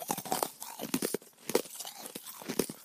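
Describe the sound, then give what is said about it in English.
Crunching of ice cubes being chewed, with sharp, crackly bites coming in an irregular rhythm, some louder than others, and no talking. “I found many videos online of people chewing ice cubes.”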